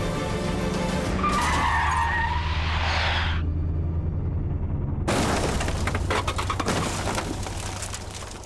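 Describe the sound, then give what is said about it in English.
A car brakes hard with a loud tire screech lasting a couple of seconds over engine rumble, followed by a sudden burst of harsh, rattling crunching noise. “On my signal, Chief Inspector, you need to apply the brakes and perform a reverse TVI.”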